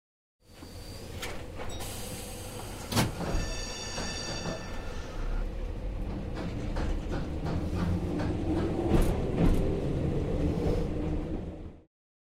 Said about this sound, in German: Die Straßenbahn.